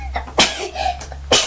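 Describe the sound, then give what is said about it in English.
Two sharp, breathy sneezes from a person with a cold burst out about a second apart, fairly loud, with quieter rustling and breathing between them and no talking. “Bless you.”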